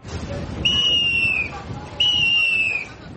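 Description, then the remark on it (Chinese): Two long, shrill blasts of a whistle from a police officer directing traffic at Qargha Lake, outside Kabul, Afghanistan. Each blast is nearly a second long and sounds clearly over a low murmur of outdoor crowd noise and voices. “而在城外这处地方，指挥交通的警察随身携带的是口哨，不是 AK-47。”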